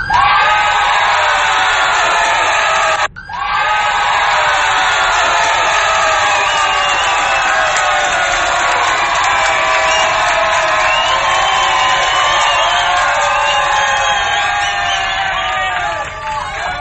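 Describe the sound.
A large crowd cheers and shouts continuously, a loud, dense roar of many voices with whoops and yells, broken by one brief dip near the start before surging back and holding steady.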